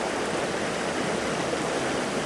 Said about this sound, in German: Es tönt da gerade sehr laut, der Bach, der da vorbeifliesst.